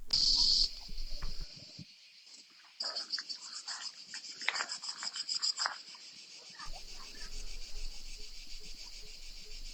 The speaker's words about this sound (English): You know, so you can hear these, you know, this like these hordes of cicadas in the different trees all around the house that we're staying in there.